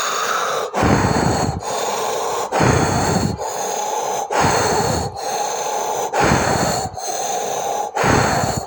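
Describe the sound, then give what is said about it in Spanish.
Loud, forceful breathing in and out through an open mouth, with rapid breaths of about one per second in a steady rhythm, heavy, rushing and slightly raspy. No talking. “Ahora, mediante esta respiración tan pausada, quiero que abras la boca y empieces a respirar vigorosamente por la boca y exhalando el aire.”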